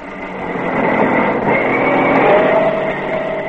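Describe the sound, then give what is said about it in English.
A heavy truck engine labors steadily under load as it climbs a steep, narrow mountain bridle path in South Africa, a continuous low droning rumble that rises slightly in pitch and strain, fairly loud with no one talking. “But a truck is not a pony.”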